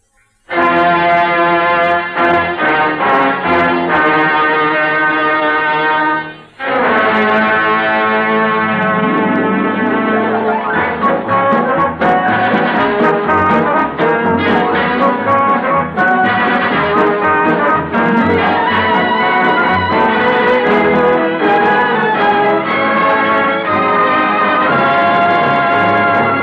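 An orchestra in a theatre, led by a conductor with a baton as the lights dim and the curtain goes up, plays loud, full music with sustained brassy chords that shift and swell, stopping for a brief break around six seconds before resuming with busier, rhythmic passages. No one speaks.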